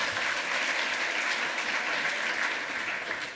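Steady, dense applause from an audience, a continuous crackle of many hands clapping at an even, loud level throughout with no voices standing out.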